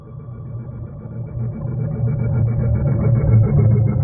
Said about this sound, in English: Each one of these vessels makes sound audible underwater from tens, sometimes hundreds of miles.